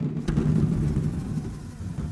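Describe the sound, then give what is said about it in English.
A low, continuous rumble swells and churns like rolling thunder, with a brief rattling burst near the start, made as a thunder effect by shaking BBs inside a couple of blown-up party balloons held by a microphone. No one speaks. “These are just BBs inside of a party balloon. So a couple of blown-up balloons with BBs inside it. We shook them, and then as that kind of...”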